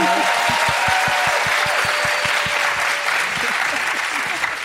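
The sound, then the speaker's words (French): An audience applauding steadily, dense clapping filling the whole stretch at a fairly loud, even level, with some faint low rhythmic thumps underneath. “C'est quoi ce peuple qui applaudit?”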